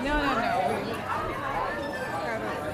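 A steady wash of crowd chatter at the Santa Monica International Film Festival: many voices talking over one another at a constant, moderate level, with no single speaker standing out from the babble.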